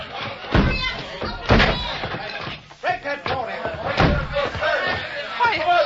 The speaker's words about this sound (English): Door's locked. No key. Stand back. I'm going to smash it.